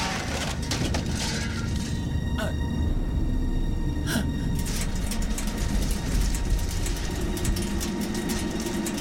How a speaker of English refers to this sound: A colonial gunship flies in overhead.